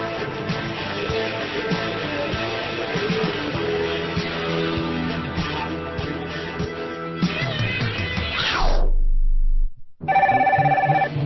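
A telephone rings insistently amid a busy, layered mix of tones, then the sound sweeps downward into a brief silence before a steady tone returns. No one speaks.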